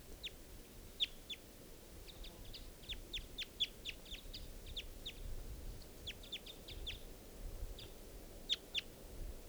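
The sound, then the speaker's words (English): A male wild bird, perched in the trees above a net, calls with a quick, irregular series of sharp, high-pitched chirps that keep repeating over a steady low background rumble. No one speaks. “And that's the male calling there.”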